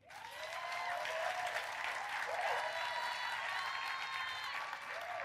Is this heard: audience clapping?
yes